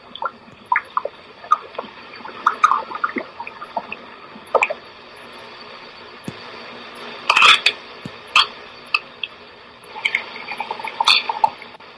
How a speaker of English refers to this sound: Right now, the boiling water is going down into the plant. It's dying in the boiling water.